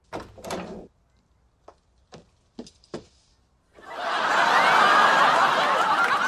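door opening

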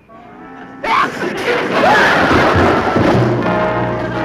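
sneeze

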